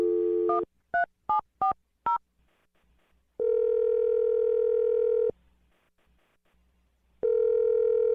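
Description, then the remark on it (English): A steady telephone dial tone gives way to five quick keypad beeps as someone dials a phone number, then long ringing tones repeat with a pause between them. Clear, with no voices. “I'm going to dial Jake's phone number right now.”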